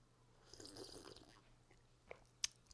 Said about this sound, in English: I am about to now drink a cup of Lavazza coffee that I made home here.